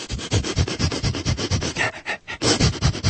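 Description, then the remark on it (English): A dog called Breitbart sniffs and pants in quick, steady bursts of breathy, hissing air, repeating rapidly for about three seconds with only a brief pause near the end. No one speaks. “Now, sniff, sniff.”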